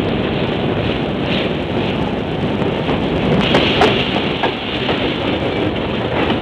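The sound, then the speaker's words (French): The Golden Arrow (Flèche d'Or) passenger train rumbles steadily along the rails as it appears around a curve, a dense roaring wash with faint rhythmic clatter and occasional brief metallic squeals, loud and continuous with no voices. “Et voici qu'apparaît à la courbe des rails le Golden Arrow, le Flèche d'Or.”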